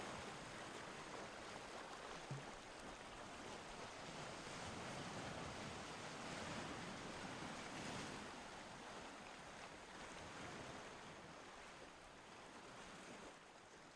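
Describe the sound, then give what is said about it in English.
Steady ocean surf washes continuously onto the shore, a broad, hissing roar of breaking waves that swells gently and recedes, with no voices present. “You know, and for us is, when the wave coming in, you just draw in that peace that God has there for, you know, for those creatures and for us.”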